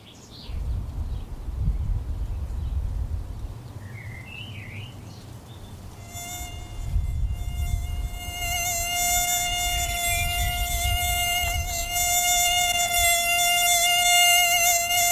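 Over a low background rumble, a steady, high-pitched whine of mosquitoes from the ARIM collection of medically important arthropods at the IRD on the Agropolis campus begins partway through and continues unbroken to the end, with no talking.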